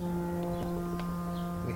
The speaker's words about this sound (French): Tiens, tu entends? Ces bruits de bateaux, ces coups de klaxon, c'est ça toute la journée.